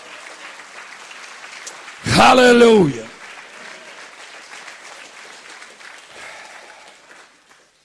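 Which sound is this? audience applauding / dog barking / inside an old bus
audience applauding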